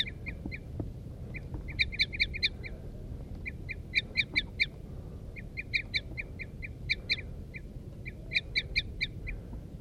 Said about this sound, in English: The birds are chittering now. There they go. The wild birds are taking off now.